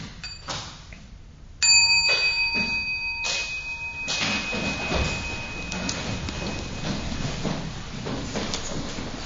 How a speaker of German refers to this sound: wenn ich dich einbitten darf, dass du die kleine Glocke einlädst.